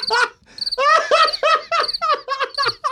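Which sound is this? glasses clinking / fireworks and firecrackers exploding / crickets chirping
crickets chirping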